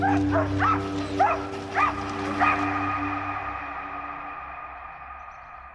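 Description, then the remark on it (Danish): Several police dogs bark in a rapid, excited burst of about six sharp barks over the first two and a half seconds as police advance in a long line on demonstrators on Hundige Strandvej in Greve, then fall quiet, leaving a steady low hum and faint background noise. “De går frem mod dem i en lang række med deres politihunde.”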